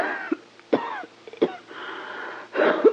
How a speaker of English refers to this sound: That cough really is bad. You need a doctor.